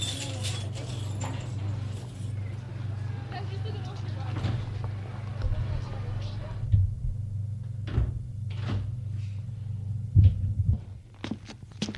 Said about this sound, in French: Cette fois, elle prend ses clés pour ouvrir la porte de l'immeuble.